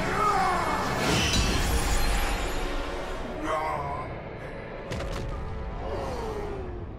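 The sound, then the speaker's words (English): A loud, ringing crash as the sword Frostmourne shatters Dranosh's weapon, followed by scattered sharp clatters and strained, groaning vocal sounds over a dense rumbling background. “Frostmourne shatters Dranosh's weapon and claims his soul.”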